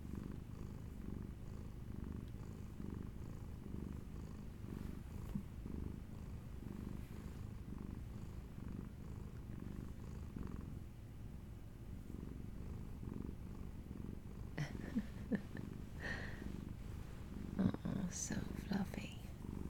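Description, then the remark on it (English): A fluffy female domestic cat purrs steadily, a continuous low rumble lasting the whole time, with some faint rustling and small handling noises near the end. “This cat kills me. She's so damn cute.”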